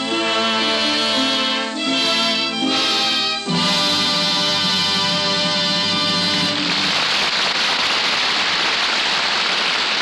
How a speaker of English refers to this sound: The music swells, the audience applauds. The curtain slowly falls, bringing our play to its happy conclusion.